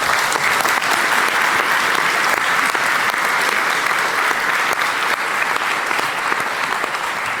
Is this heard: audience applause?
yes